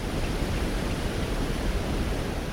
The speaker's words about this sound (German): Neben der Schleuse rauscht das Wasser der Aller über ein Stauwehr. Ein künstlicher Wasserfall, nur 1,5 Meter hoch.